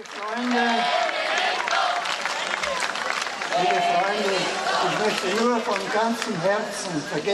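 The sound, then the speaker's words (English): An enthusiastic crowd numbering in the hundreds cheers loudly and without pause as it greets the Pope on his arrival, many voices shouting and calling over one another in a dense, excited roar, with scattered clapping mixed in. “Greeted by an enthusiastic crowd numbering in the hundreds upon his arrival yesterday, the Pope saluted his well-wishers as friends and said he is very happy to be back among them in a place that holds so many happy memories for him.”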